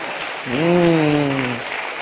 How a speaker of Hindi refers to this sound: हमें गुस्सा नहीं करना चाहिए और हम गुस्सा नहीं करते हैं तो रिजल्ट होता है पॉजिटिव, आप तालियां बजाइए।